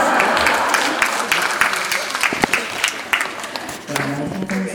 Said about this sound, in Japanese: いろんなところで歌わさせていただいております。今日のようにこんなに温かく素晴らしい拍手いただくのは初めてです。